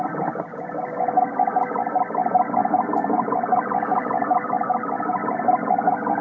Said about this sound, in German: Und das war ein Störer.